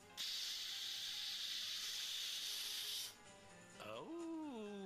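A driver blows steadily into a breathalyzer during an alcohol test, a loud, even breathy hiss lasting about three seconds, followed by a short pause and a wavering, rising electronic tone.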